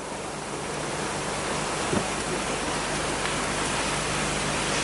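A dense, steady hiss of heavy rain pouring down without pause, loud and close, with no voices over it.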